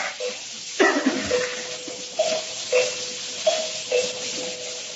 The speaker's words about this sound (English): Mary, a dead man would have heard the bell by this time.